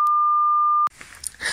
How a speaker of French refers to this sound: Bonjour, vous êtes bien sur le répondeur du... Opération Bikini! Vous pourrez enregistrer votre message juste après le bip sonore.